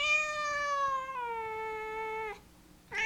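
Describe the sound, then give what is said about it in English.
A domestic cat named Ahab, a 5-year-old female black cat with a white nose, lets out a long, drawn-out meow that drops in pitch partway through, followed by a brief pause and the start of another meow, fairly loud with no talking. “So my cat's name is Ahab, and she is 5 years old. What is it, Ahab? Wanna go outside?”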